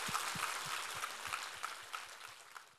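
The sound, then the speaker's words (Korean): An audience claps together in steady applause of thanks and glory to God after a Bible reading, a dense, even wash of many hands with faint rhythmic pulses underneath, holding at a fairly constant level throughout without any voices. “우리 하나님께 감사와 영광의 박수를 올려드리겠습니다.”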